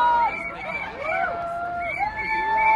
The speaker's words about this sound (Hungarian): Ugye most a kettes villamos itt halad el a tömeg mellett, és a most fog megállni.